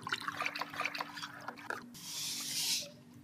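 Water is poured steadily into a tank holding water of average ocean composition, a broad rushing hiss that swells and then fades, preceded by a few seconds of irregular splashes and dribbles.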